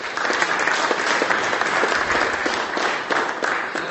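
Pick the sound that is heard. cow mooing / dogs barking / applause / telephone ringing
applause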